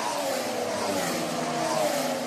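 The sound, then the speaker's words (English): A 2014 turbo hybrid Formula One racing car engine drones loudly and steadily, a sustained mid-pitched hum with a slight rising revving tone and broad hiss, heard alone with no talking. “Here's what a 2014 engine sounds like.”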